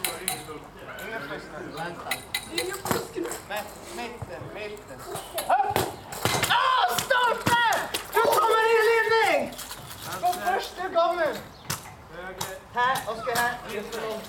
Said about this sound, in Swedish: klappar med sin ring i målstolparna så att det blir metall mot metall och det hörs ju ganska bra.